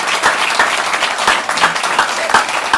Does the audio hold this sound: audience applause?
yes